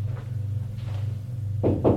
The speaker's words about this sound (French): on a frappé à la porte.